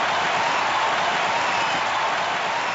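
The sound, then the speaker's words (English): A boxing crowd cheers and applauds a replay of a big right hand thrown by Barbara Billingsley to Florence Henderson, in a steady, dense roar that holds at an even loudness for the whole stretch, with no clear voices standing out. “You'll notice nobody saw it because nobody's cheering. Oh, now they are.”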